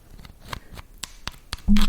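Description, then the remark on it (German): A pen rubs and scratches fairly hard across the hard surface of a solid object, in quick, fairly regular dry strokes, finishing with a louder, sustained scrape. “Man kann es ziemlich fest reiben.”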